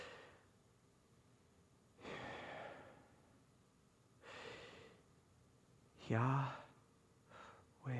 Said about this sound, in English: What would it look like if over a 4 count of controlled breathing, you exhaled? That, right, that exhale, doesn't that sound like YH? And you hold that for 2 counts, and then 4 count breathing in.